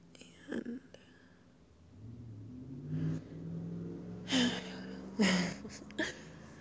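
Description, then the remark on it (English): Traffic rumbles in the background as a car passes, its low engine drone swelling and lingering, while close breathy whispering sounds come in short bursts over it. “As the love of my life, I hope that you get used to the cars in the background of everything I send you.”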